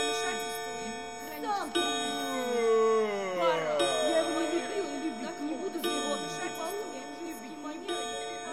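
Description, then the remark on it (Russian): Several clocks chime at once in a dense, overlapping jangle of sustained ringing tones, with warbling, sliding notes weaving through; a faint ticking may sit beneath the clamor. “Чтоб вас, часы проклятые!”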